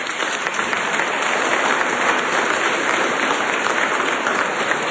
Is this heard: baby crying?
no